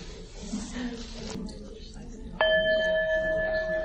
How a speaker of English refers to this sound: I'll ring a bell when we're about halfway through the time. So make sure each person has a chance to share.